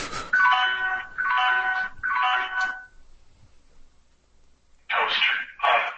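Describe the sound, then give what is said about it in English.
A toaster oven timer beeps loudly while a bacon cheeseburger pizza cooks: three sustained electronic tones in steady rhythm, a short silence, then two more beeps, with no talking. “Toaster off. Well, our timer ran out.”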